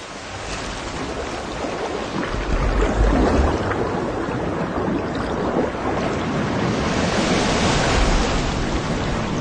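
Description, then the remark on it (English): Ocean waves wash steadily over a shallow reef in a continuous, loud roar of surf, swelling slightly a few times, with no voices present. “It faces a whole new set of hazards as it tries to swim out over the reef top.”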